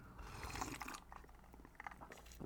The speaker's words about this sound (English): I love that sound of the ice glugging, clinking and clanking, like a big old pair of balls just smacking around.